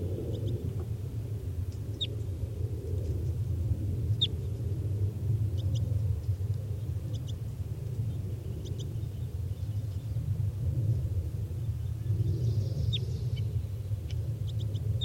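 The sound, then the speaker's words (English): A bird, individual 395, gives short, sharp, high-pitched alarm calls, repeated at irregular intervals and fairly faint over a steady low rumble. No one speaks. “That was 395, also giving an alarm call.”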